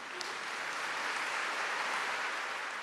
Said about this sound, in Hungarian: A hatodik pálteremben ülő hívek azonnal megtapsolták a fiút, aki maga is tapsolni kezdett, és mosolygott arcmaszkja alatt.